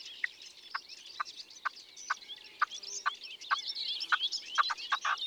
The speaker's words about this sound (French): Ces bruits bizarres, comme un moteur qui tousse, c'est une perdrix rouge.